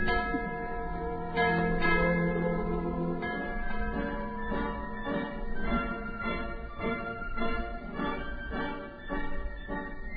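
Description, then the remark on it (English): An old church bell tolls steadily in a dense, ringing wash: repeated strikes about every second, each blooming into long overlapping tones, loud and continuous throughout, with no voices. “This old bell had rung out the sounds of victory, of many wars.”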